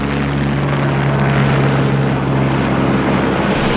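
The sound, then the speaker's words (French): A passenger-carrying flying taxi aircraft, being tested in flight in New York, United States, gives off a loud, steady whirring drone, low humming rotor tones layered over a constant broad rush of air. No one speaks. “Un taxi volant vient d'être testé à New York, aux États-Unis.”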